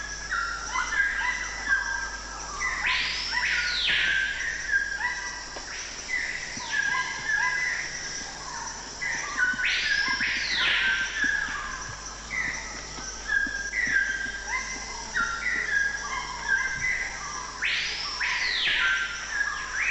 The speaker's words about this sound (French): Les oiseaux pullulent, on entend ces gros perroquets qui jacassent, il y en a des verts, il y en a des rougeâtres, on entend les toucans.